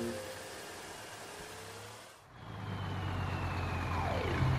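A small police toy car whirs up a slope on a plastic track, its motor giving a steady buzzing hum that dips briefly midway, then resumes a bit louder and rougher until the end.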